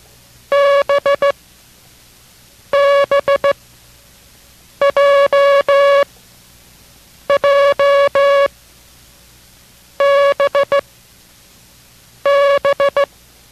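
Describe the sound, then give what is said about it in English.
Six Morse code characters, J, J, B, J, J, B (Jig, Jig, Baker, Jig, Jig, Baker), sent for a copying exercise as a steady, buzzy mid-pitched tone, each a quick cluster of short and long beeps separated by brief pauses, loud and alone with no talking. “We're going to send that group of characters, and while you're watching your copy, concentrate on the sound of each of these characters.”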